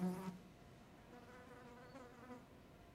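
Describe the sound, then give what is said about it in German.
A fly buzzes steadily, flying endless star-shaped loops under the ceiling in the middle of a room, its drone rising and falling slightly, with a brief louder burst at the very start. “Sie folgt mit ihren Augen der Fliege, die in der Mitte des Raumes unter der Decke einen endlosen Stern fliegt.”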